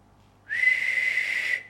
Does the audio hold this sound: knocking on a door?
no